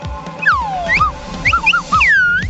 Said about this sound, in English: That's right. That's right, slide whistles. Get your slide whistles ready.